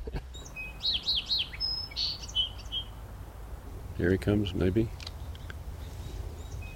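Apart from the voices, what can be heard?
birds chirping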